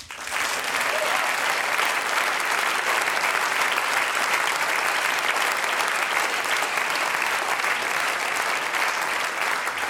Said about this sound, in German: Großen Applaus.